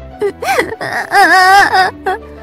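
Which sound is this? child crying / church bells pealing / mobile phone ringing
child crying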